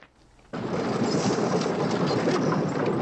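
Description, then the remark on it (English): After a brief hush, wagons suddenly start rolling outside a fort, following the last of the troops: a loud, steady rumble of wheels with a dense rattling clatter that carries on unbroken, with no voices. “Wagons are rolling outside the fort, following the last of the troops as they gallop across the river.”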